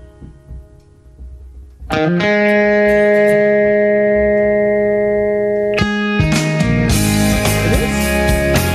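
A song plays on Chicago radio station 720 WGN, loudly with sustained, heavily distorted chords that ring out, shifting to a fuller, brighter chord partway through, after a quieter, murky opening.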